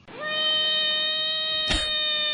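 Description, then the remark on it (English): A screaming frog call: one long, loud, steady high-pitched wail that sweeps up briefly at the start, then holds a single rich buzzy tone, with a short noisy burst near the end. “If you're wondering, that's what a screaming frog sounds like.”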